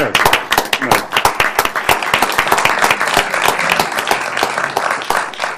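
People at a Portland city government session applaud steadily for a set of resolutions honoring city employees of the Water Bureau, with dense overlapping claps at a consistent loud level for several seconds and no talking in between.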